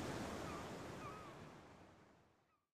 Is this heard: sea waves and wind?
yes